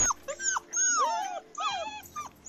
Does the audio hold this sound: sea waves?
no